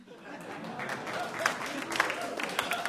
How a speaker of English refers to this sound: And for the people out there that did not clap, you need to work on your geek cred, because our title is a famous line by the character Gollum from Tolkien's Lord of the Rings.